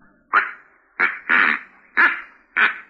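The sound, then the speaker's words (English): A duck call ordered from St. Louis is blown: five loud, nasal quacks in an uneven rhythm, the third stretched longer than the others, with no talking over them. “Oh, this is a duck call.”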